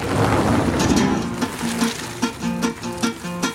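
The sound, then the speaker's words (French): Steady rain pours down in a dense, continuous hiss, with a deep rumble underneath at first and a faint droning hum weaving through the downpour. “Bon, en attendant, c'est l'heure de retourner bosser sous la pluie, là.”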